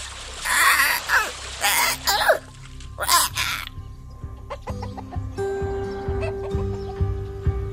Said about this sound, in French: Alors, il déploya ses ailes qui se gorgèrent d'eau. Il tenta de lancer son magnifique cocorico, mais en vain. La voix tremblante, il lança des cris de détresse qui attirèrent tous les animaux au bord de la rivière.